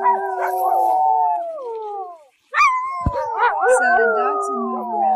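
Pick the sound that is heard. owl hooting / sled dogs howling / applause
sled dogs howling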